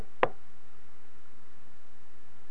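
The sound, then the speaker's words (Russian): A single soft, gentle knock on the door of a shed, followed by quiet room tone with no other sounds. “И тут вдруг к ним в сарай кто-то постучал. Ну, уже не таким стуком, бум-бум-бум, а очень нежно так.”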